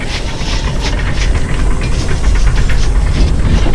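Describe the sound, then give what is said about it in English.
A steam-powered snowblower engine bellows at night as it cuts through a wall of snow: a loud, steady mechanical roar with heavy low-end rumble and rapid chugging, knocking pulses, continuing without pause. “A steam-powered snowblower bellows into the black night as it cuts through the wall of snow.”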